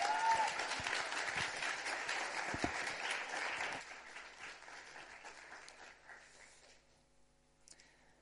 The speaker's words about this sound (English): It's been great to listen to their stories, their experiences. Give them another round of applause, and we'll clear the stage.